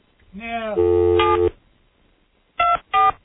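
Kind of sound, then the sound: signal or alarm, telephone keypad dialing tones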